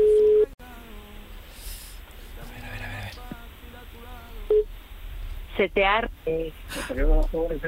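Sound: telephone ringing tone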